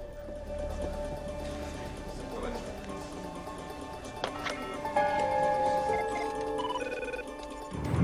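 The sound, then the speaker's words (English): A telephone rings with steady electronic tones that begin partway through, over a low background rumble and movement. “walks sheepishly across to a phone and contacts”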